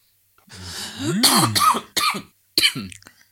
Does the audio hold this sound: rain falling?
no